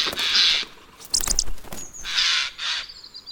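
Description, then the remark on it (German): Harsh, rasping screeches of a Eurasian jay in a forest ring out in three loud bursts, with a brief flurry of sharper, higher calls in between, as a goshawk swoops in to attack it; no one speaks. “Mit einem spektakulären Flugmanöver, mit schnellen Flügelschlägeln den Zweigen ausweichend, ist ein Habicht dabei, über den ahnungslosen Eichelhäher herzufallen.”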